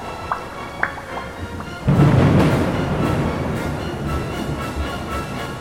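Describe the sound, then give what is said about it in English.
After a quiet opening with a few faint high blips, a loud crack of thunder breaks in and rolls on as a long, broad rumble mixed with a steady windy roar. “lightning bolted from cloud to cloud with booming thunder and wind howling loud.”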